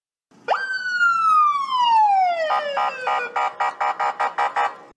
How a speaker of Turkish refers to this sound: Siz tam böyle yaparken birden böyle bir polis sirenisi geliyor böyle.